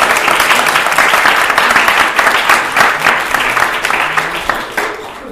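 A crowd applauds steadily, many hands clapping in a dense, bright wash that holds strong for several seconds before tapering slightly at the end.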